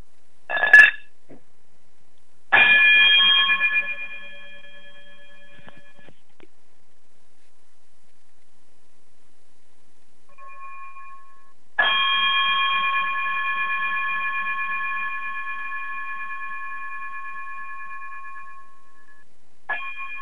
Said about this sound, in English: if you be so kind to quickly chime us out of here, and we'll see you all again.